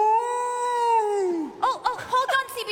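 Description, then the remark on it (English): A voice imitates humpback whale song: a long, sustained moaning tone that sags downward, followed by several short rising-and-falling whoops, loud with no background. “I got to swim with humpback whales. And what a beautiful sound those whales made”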